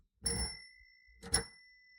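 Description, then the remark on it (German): A sticky, jammed bicycle bell gives two short, muted dings about a second apart, each with a dull thud and a thin ringing tone that fades quickly. “Das klang ja verhalten. Unsere Fahrradklingel klemmt.”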